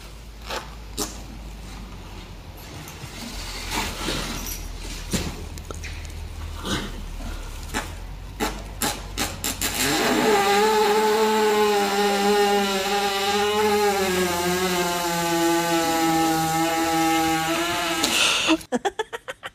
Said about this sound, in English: One word, that was a girl in her barn with the horse laying down completely horizontal, pressing against his stomach because he knew he had a tummy ache. Obviously, some gas in there. One word on a horse fart.